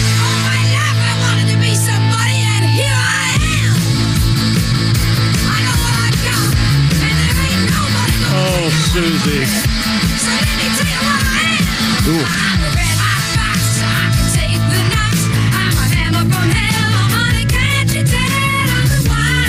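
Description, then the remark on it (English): A loud, dense rock cover song plays throughout, with a raw screaming female vocal sliding up and down over distorted guitars and pounding drums. No one talks over it. “So this is the cover of the …”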